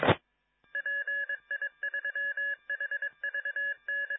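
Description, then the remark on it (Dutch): A rapid sequence of electronic DTMF touch-tones from a radio repeater, short dual-pitched beeps in quick bursts with brief gaps, preceded by a short burst of static. “Dat was de repeater.”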